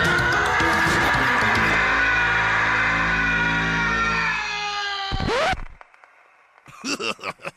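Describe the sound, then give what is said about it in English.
The official Real Monsters cartoon monster scream: loud and harsh, it holds for about five seconds, then cuts off abruptly. After a short lull come a few quick, quieter squawking bursts. “I'm glad I found that Real Monsters official scream that was discussed in the episode.”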